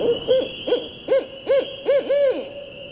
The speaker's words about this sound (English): until the caterwauling calls of a barred owl, like a giant squeegee being dragged across a window, echoed through the lobby and interrupted my reverie.